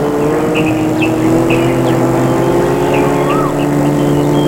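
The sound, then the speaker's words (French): A steady, droning car engine rumbles continuously as the car leaves the road at night, with faint chirps and rustling sounds scattered over the top. “Après un moment, dans la nuit noire, où il y a des bruits étranges et des frôlements, la voiture sort de la route.”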